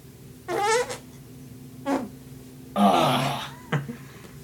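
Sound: fart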